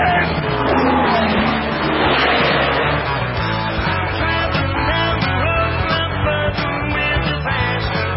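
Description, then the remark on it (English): A loud, continuous roar of race car engines at the Daytona 500, with a dense wash of crowd noise and tire squeal mixed in as one or two cars spin in the middle of the field. “The Daytona 500 is underway. On tumble now, in the middle of the field, as 1-2 cars spin.”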